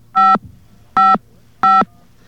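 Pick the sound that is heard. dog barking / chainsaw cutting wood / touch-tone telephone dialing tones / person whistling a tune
touch-tone telephone dialing tones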